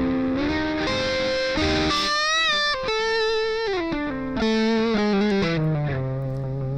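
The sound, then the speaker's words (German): A distorted rhythm guitar plays sustained, heavily processed chords through a digital multi-effect unit, a 2000s-style sound with a glossy digital sheen, shifting through several chord changes at steady loudness with no one talking. “So klingt für mich der mit 2000er digitale Multi-Effekt Rhythmus-Gitarren-Sound”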